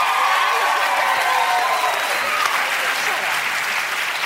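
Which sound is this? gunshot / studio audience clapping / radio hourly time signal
studio audience clapping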